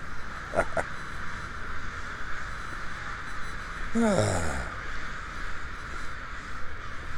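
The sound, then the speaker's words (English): A few harsh crow caws ring out: two quick calls early on, then one louder, drawn-out caw a few seconds later, all over a steady background hum of city noise, on a humid morning on 11th Street in the Pearl District of Portland, Oregon. “Welcome to the Crocophony.”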